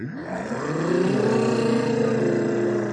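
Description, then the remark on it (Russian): A group of children hums together in a loud, sustained drone, voices sliding up in pitch at first and then holding steady, imitating the roar of jet airplanes for about three seconds. “А гудеть вы умеете, как реактивные самолеты?”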